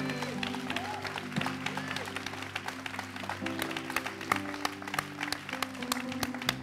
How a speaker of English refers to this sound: Amen. Hallelujah. Give him a big clap.